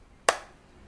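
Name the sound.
two hand claps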